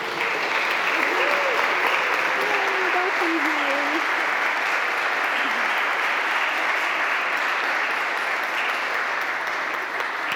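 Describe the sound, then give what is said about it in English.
Sustained applause from a church audience welcoming a person just received into the Catholic Church, a steady dense patter of clapping at even loudness, with a few faint voices and cries briefly rising through it early on. “Will you signal your joy with your applause?”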